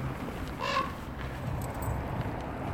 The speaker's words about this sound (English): big raven.